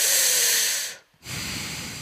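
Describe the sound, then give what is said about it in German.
A voice imitates the heavy, deep breathing of a customer service agent on a phone call: one long, loud, airy breath, a brief pause, then a second drawn-out breath, hissing, with no words. “Dann hörte ich sie immer nur ganz tief und schwer atmen.”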